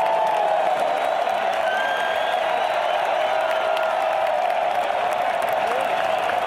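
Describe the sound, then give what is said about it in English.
A large crowd of people queuing for buses cheers and claps loudly as a bus arrives, a dense roar of voices and applause with scattered whoops, sustained at steady volume throughout. “The people queuing were in good humour, and each bus that arrived, at quite lengthy intervals, was greeted with a raucous cheer.”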